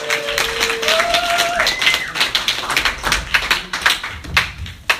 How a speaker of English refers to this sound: Right, keep that applause going for your next comedian coming to the stage